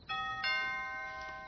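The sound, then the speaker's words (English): A doorbell chimes a clear two-tone ding-dong, the second note struck right after the first and left ringing as it slowly fades. No voices, just the bright chime. “I'll get the door.”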